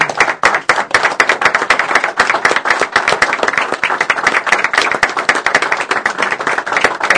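A crowd applauds steadily, with dense, rapid, overlapping hand claps holding an even, loud level throughout and no voices breaking through.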